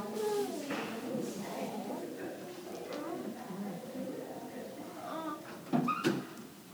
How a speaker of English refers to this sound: Can you close the door?